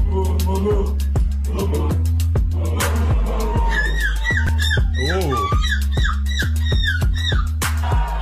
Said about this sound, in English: That's a good one. I'm not sure why there's a drum beat under that. Sure I don't either, understand. But that was a good seagull.